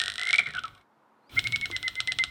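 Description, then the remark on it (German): Bat echolocation calls, ultrasound that bats emit constantly in flight, made audible with a special device: a rapid, crackling train of dry clicks over a thin high whine, breaking off for about half a second of silence before the fast ticking resumes. “Mit einem speziellen Gerät kann man diese Töne aber hörbar machen. Das klingt dann so.”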